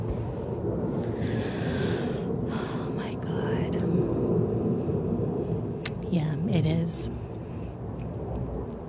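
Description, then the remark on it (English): A low, steady rumble of an airplane flying overhead fills the background, continuous, with soft breathy whispering and a few faint clicks. “Is that a fucking plane?”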